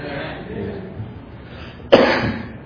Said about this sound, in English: Sorry about the cough. I don't like it any more than you do. I promise you that.